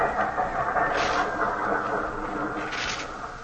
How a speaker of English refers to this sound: Hey, everybody get ready. Look, here comes our train. Come on.